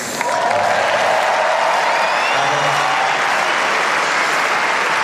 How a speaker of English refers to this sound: But I'm actually was a little surprised because you guys also cheered for me. Thank you very much for cheering on me today.